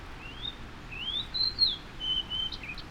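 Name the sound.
fox sparrow singing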